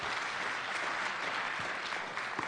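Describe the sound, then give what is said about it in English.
An audience clapping their hands in praise to God, a dense, sustained wash of applause from many people at steady loudness for the whole stretch. “Give God a hand clap of praise.”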